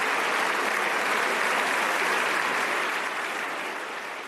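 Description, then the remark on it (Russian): Sustained applause from France's parliament deputies, who interrupted debate and rose from their seats in an ovation honoring Nobel laureate professor Alain Aspect; dense and steady clapping, loud and continuous before slowly tapering off toward the end. No speech over it. “Парламент страны прервал дебаты, и все депутаты, поднявшись с мест, устроили овацию в честь своего награжденного соотечественника, профессора Ален Аспе.”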